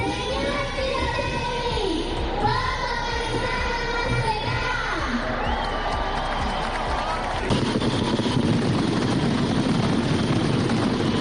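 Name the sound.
mascletà firecracker barrage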